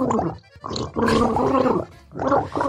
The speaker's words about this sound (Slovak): Čo, no človek nikdy nevie, ale tak, že táto kloktanica naozaj znie ako dáma. A mám taký pocit, že to je nejaká veta, že nám táto dáma chce niečo povedať, len omylom má proste vodu v ústach.